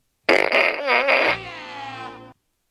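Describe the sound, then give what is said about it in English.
A loud, raspy electronic fart noise from a novelty fart gun fired as a birthday salute, warbling in pitch for about a second before trailing off into a steadier, quieter buzzing tail. No one speaks. “And if anybody deserves a fart gun, it's our sister, Sarah Kerbal.”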